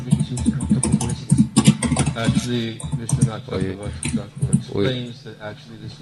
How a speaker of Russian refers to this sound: У кого-то микрофон, я слышу, как стучит клавиатура, очень мешает.